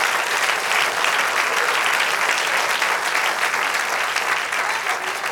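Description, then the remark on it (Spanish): An audience applauds God for wisdom, a dense wash of many hands clapping at an even, sustained loudness for several seconds with no clear pauses. “Dale aplauso a Dios por la sabiduría.”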